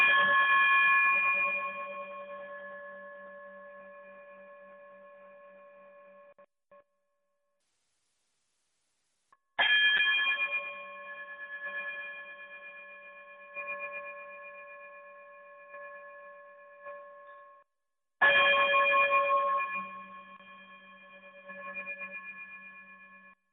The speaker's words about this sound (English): Brother Braggs, if you would be so kind, brother, chime us out of here.